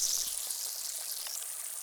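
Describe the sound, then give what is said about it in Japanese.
Soft, steady fizzing and crackling as paste spread over the outside of an ear foams up after water is added with a dropper, like tiny bubbles popping in foam, fairly quiet, with a few faint drip-like ticks scattered through it and no voices. “水分を足すと泡立つペーストなんです。”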